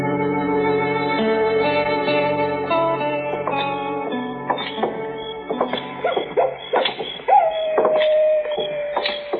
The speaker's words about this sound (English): That miserable coyote, Mr. Dillon. Did you hear him? Yes, I heard him, Chet.